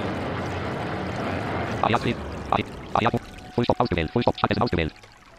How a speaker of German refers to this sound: Oh, hört ihr? Das Wasser plätschert am Rumpf entlang.